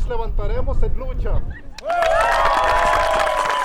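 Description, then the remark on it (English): A man speaks briefly, then a crowd at a tribal community meeting on water rights in Saps erupts into sustained applause mixed with loud shouts and cheers of support that continue steadily to the end. “Applause and shouts of support soon turn to celebratory song and dance.”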